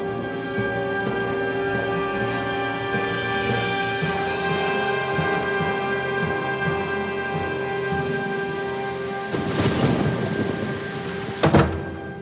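Heavy rain pours steadily throughout a thunderstorm, then a loud rumble of thunder swells near the end, followed by a sharp crack. No one speaks.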